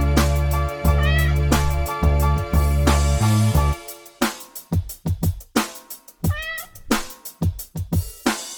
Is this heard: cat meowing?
yes